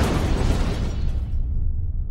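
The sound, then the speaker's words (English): A single loud, cracking boom as a crown shatters in someone's hands. A bright crackling hiss fades within about a second, and a deep rumble lingers underneath. No voices. “There had been a sound like the world cracking open as the crown shattered in her hands.”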